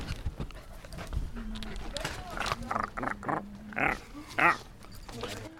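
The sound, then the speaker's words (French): A human voice imitates a dog with a series of short, throaty barks and grunts at irregular intervals, moderately loud, against a murmur of background noise. “Qu'est-ce que vous pensez en tant que chien de ce rassemblement qui se prépare?”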